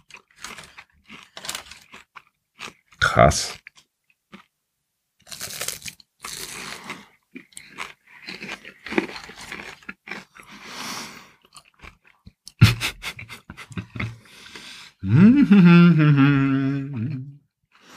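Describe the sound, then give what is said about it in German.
Loud crunching as a crisp green dessert, held in the hands, is bitten and chewed, in repeated bursts with pauses between, followed by a drawn-out vocal exclamation near the end. “Oh, das knuspert.”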